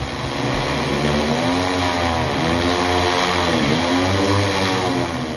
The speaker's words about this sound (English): MRCU is taking mosquito control to new heights with a heavy lift drone that can reach places planes and trucks can't.